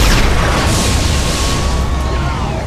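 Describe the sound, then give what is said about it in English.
A loud, sustained blast from a disruptor cannon roars continuously for a few seconds, a dense rushing burst with thin whining tones sliding through it, with no voices. “But even as the Haydenmen fell away, dead or dying, one of them had already aimed and fired.”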